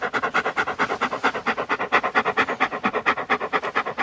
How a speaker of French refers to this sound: Un chien, bruit des respirations de chien pour vous